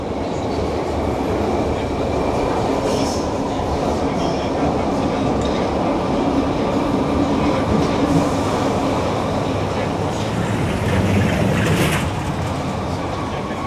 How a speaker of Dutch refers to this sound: Nu rijden er trams in de bedding.